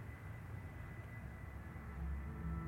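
A small propeller plane flying at low altitude, dropping six packages, drones steadily overhead, a low rumbling engine hum with a faint tonal whine that grows slightly louder toward the end. No voices.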